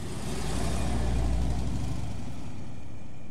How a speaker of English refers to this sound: Mr. Hazel's big car drove away.